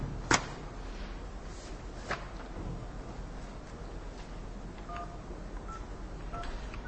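A few short telephone keypad tones beep one after another, each a steady two-note chirp, over a constant hiss of background noise, with a couple of sharp clicks earlier on.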